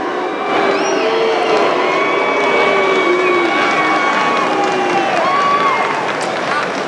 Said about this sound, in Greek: Τότε ο κόσμος προχώρησε σε αποδοκιμασίες, ενώ συνεχίζοντας η … είπε ότι το Αυστραλιανό Open μετέφερε την ελπίδα στον κόσμο ότι υπάρχει τρόπος να επιστρέψουμε στην κανονικότητα για να καταχειροκροτηθεί από τον κόσμο αυτή τη φορά.